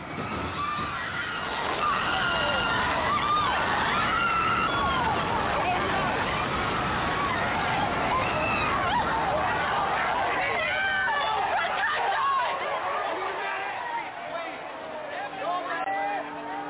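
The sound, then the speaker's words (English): A dense crowd of protesters in loud commotion, many voices shouting and yelling over one another continuously, with a chaotic, agitated energy that eases slightly toward the end. “A gray Dodge slammed into a crowd of protesters.”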